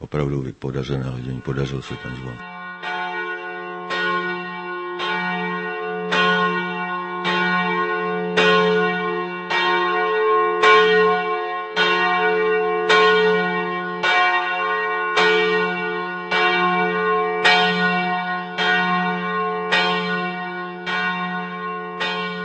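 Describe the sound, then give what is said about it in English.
The St. Havel bell, cast in 1506 by Jan Cantarius in his old town workshop, bearing a Latin inscription, weighing about 1,800 kilos and tuned in F1, tolls steadily with a large, deep tone, about fifteen strong strokes with a humming resonance lingering between them. A brief voice is heard just before the ringing starts. “It was cast in 1506 by Jan Cantarius, who had his workshop here in the old town.”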